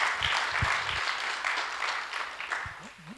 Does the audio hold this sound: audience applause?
yes